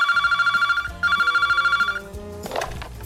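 A telephone rings with an incoming call: two loud, trilling electronic bursts back to back, followed by a brief clatter as the ringing stops.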